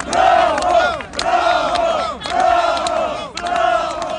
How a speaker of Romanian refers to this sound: La plecarea lui Igor Dodon din clădirea președinției, în stradă s-au auzit și câteva huiduieri.